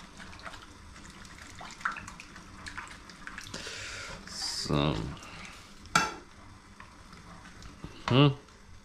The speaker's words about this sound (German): Dann verteilen wir mal die Suppenbasis von den Shin-Ramen hier über die Milch. Und verrühren das Ganze mit, entweder mit dem Pfannenwender oder hier vorsichtig mit dem Esslöffel.